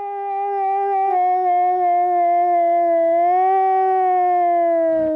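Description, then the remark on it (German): One long, sustained wolf howl, answering a man's imitation of wolf howling, holds a steady, slightly wavering pitch for about five seconds, loud, with no talking and little else in the background. “konnte das Heulen der Wölfe so gut imitieren, dass ihm seine Tiere sogar darauf geantwortet haben, wie man hier hören kann.”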